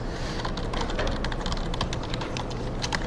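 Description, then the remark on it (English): Steady, rapid typing on a computer keyboard while writing program code, with quick irregular key clicks running throughout over a low background hum, no voices. “Oh dear, it suddenly decided I'm typing in French.”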